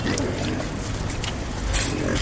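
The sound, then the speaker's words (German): About 30 pigs in Cairo, Egypt, grunting and snorting together as a bucket of food scraps is thrown over their fence, a dense continuous chorus of low rough grunts, with occasional higher squeals rising above the din. “Rund 30 Schweine grunzen fröhlich, als Ayman einen Eimer mit Essensresten über den Zaun wirft.”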